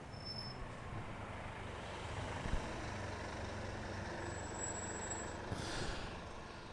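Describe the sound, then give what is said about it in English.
A heavy bus engine idles with a steady low rumble, and a short hiss of air brakes bursts out near the end. No one speaks. “Man, I'm telling you, there's like, there's advertising on these buses for products that haven't existed for a very long time.”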